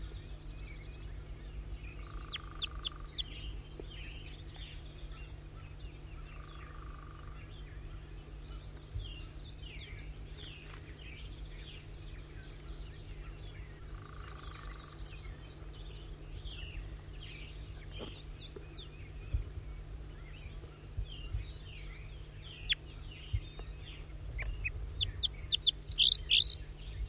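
Wild birds sing and chirp throughout, a busy mix of quick high tweets and trills, with a steady low hum underneath and a few louder, sharper calls toward the end.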